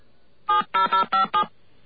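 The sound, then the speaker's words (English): Five quick touch-tone keypad beeps in a row, each a short steady dual-tone burst with brief gaps between, clear with silence around them and no voices, as someone enters a telephone number on a phone keypad into a voicemail system. “All right, I'm going to pull the same stunt and enter their phone number.”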